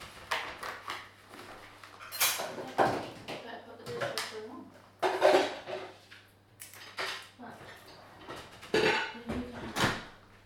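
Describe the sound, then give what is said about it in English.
Dishes and cutlery clink and clatter in several sharp bursts over about ten seconds, as if being stacked into a dishwasher, with a low steady hum and some voices underneath. “And then just put this in the dishwasher.”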